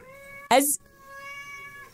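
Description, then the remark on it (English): A cat lets out a long, drawn-out meow held at a steady pitch, fairly loud, broken midway by a short burst of harsh noise. “Okay, I gotta move this cat.”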